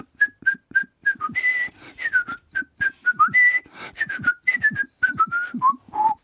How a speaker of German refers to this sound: Noch einmal pfiff sie die Melodie.